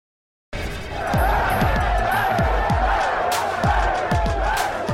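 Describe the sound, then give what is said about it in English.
A large live crowd fills the space with a steady, dense roar of overlapping voices, while low thumps repeat through it at an uneven rhythm, all starting abruptly after a short silence. “I think that probably as I look at this crowd out here, you all can probably relate to this.”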